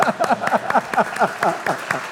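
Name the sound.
audience applauding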